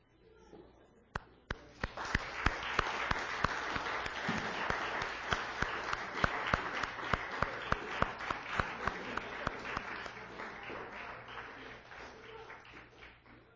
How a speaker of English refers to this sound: And so if you're a mom, you can stand, and then the rest of us we'll just give them some honor now. How's that? We'll just clap for them. Okay, mom, stand up, please.